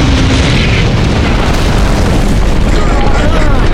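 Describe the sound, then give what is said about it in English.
A huge crash and explosion as a burning battleship slams into the far end of a valley and skids across the canyon, spewing fiery fuel and debris: a loud, continuous roaring rumble that fills the whole clip without letting up, with faint whining tones drifting through it. “The battleship slammed into the far end of the valley.”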